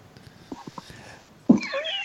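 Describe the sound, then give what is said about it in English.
A single loud cat meow rises sharply near the end, preceded by a few soft, faint tapping sounds; the meow is drawn-out with a wavering pitch. “This is better than a tig meow.”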